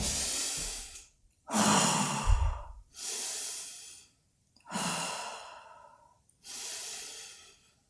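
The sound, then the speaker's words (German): Slow, deep breaths drawn into the belly, about five long airy inhales and exhales in a steady rhythm with short pauses between them, and no talking. “In den Bauch atmen, zwei, dreimal ganz tief.”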